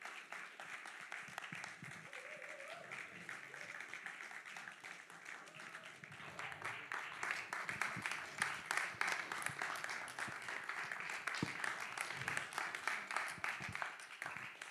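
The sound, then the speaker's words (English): An audience applauds steadily for about fifteen seconds as people walk up onto a stage, a dense wash of many hands clapping that grows louder and fuller partway through, with faint murmuring voices underneath. “You can clap them on the way up and grab a mic on the way to.”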